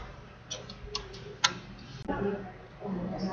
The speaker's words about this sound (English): This is a clock.